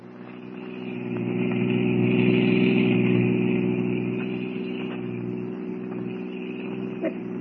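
car engine running

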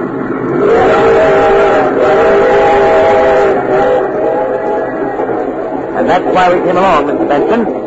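train running on rails

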